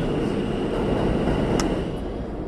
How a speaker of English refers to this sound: A final train leaves.